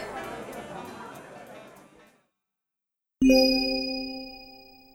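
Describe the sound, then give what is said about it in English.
A murmur of background chatter fades out, and after a brief silence glasses clink once in a toast among coworkers, bright, leaving a clear ringing tone that slowly dies away. “To Brian!”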